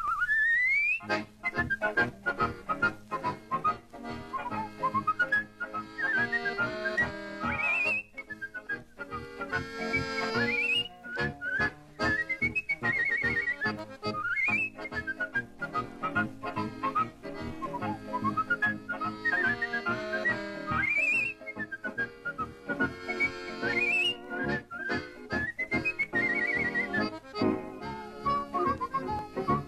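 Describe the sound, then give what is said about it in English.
A man whistles a lively melody with quick upward slides and trills, loud, over steady instrumental backing throughout; no one speaks. “Milwaukee's favorite listener and whistler.”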